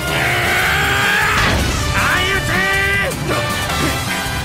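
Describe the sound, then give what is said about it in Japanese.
Heavy boxing punches, including a smash blow by the boxer Sendo, smack home in quick succession, loud, over a dense wash of shouting voices and crowd noise that never lets up. “よーっと先導またもやスマッシュ。”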